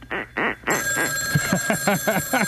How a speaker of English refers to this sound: Wait a second. How come that phone is still ringing?